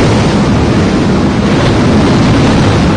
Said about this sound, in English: when the waves begin to come in over the sides of the boats.